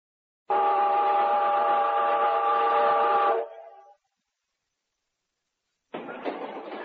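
A loud, sustained train whistle blows for about three seconds and trails off, then after a brief silence the noisy rumble of the running train starts up.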